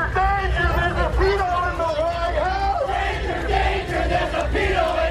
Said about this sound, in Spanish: Mareas humanas han recorrido más de 2.500 ciudades estadounidenses al grito No Kings para protestar contra lo que consideran deriva autoritaria del gobierno de Donald Trump por medidas como las redadas anti-inmigración.